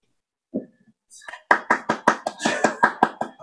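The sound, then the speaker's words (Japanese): A short round of hand clapping given spontaneously after someone finishes speaking: about ten crisp, sharp claps in a quick, even rhythm, fairly loud, preceded by a brief low murmur and a moment of quiet. “思わず拍手してしまいました。”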